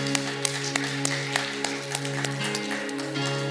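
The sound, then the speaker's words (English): A lone person claps about a dozen times for the first African American city council member of Norwood, Ohio, at a steady, unhurried pace, each sharp clap standing out over a sustained, humming keyboard chord that holds underneath. “I'm gonna clap for her by myself.”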